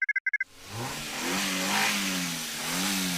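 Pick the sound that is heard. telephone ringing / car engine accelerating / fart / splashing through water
car engine accelerating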